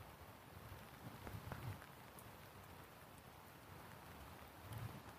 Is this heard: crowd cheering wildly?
no